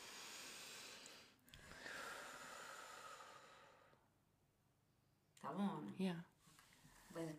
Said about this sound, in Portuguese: Bora fazer um exercício de respiração. Ok, bora.